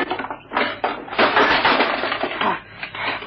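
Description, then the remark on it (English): The old, rusty lock of a wooden chest with an iron ring on top is smashed with a spade: a series of harsh, crunching blows and scraping impacts, building to a loud sustained crash in the middle before trailing off into a few rougher knocks. “Smash the lock with your spade, Jupiter.”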